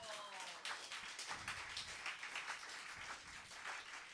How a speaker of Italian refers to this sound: e con le parole di Emanuele Trevi, per cui anche per lui vorrei un grandissimo applauso.